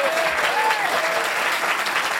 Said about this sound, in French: Il est votre mémoire sonore vivante. Je vous demande d'applaudir Monsieur Éric Laverdun.